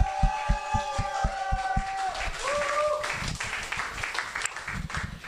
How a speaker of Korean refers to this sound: 그럼에도 불구하고 이 당당함을 잃지 않은 안종렬 사장님에게 힘내시라고 완전 크게 응원 박수 보내드세요.